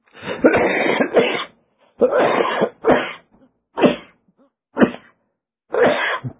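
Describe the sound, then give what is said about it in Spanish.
A series of harsh coughing bursts from a person whose lungs took in volcanic ash, roughly six in a row with short pauses between, fairly loud, with no talking. “Mi tos.”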